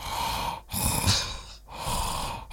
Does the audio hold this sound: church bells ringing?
no